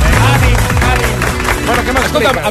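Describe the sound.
A crowd claps steadily and loudly throughout, a dense wash of hands with voices and cheers mixed into the noise.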